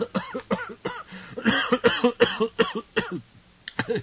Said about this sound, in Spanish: Perdón, la tos no es por lo que están pensando.